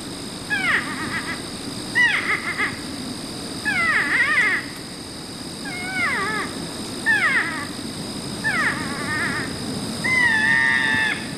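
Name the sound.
north American porcupine calls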